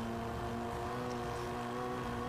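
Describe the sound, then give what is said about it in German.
A steady, droning car engine from a video game being played in a studio, kept low to avoid feedback, hums at a constant pitch in the background, fairly quiet and unchanging, with no voices over it. “Ich glaube, man hört es auch so ein bisschen. Wir hören ja jetzt das noch, Spiel noch nicht so laut, damit es hier keine Rückkopplung im Studio gibt.”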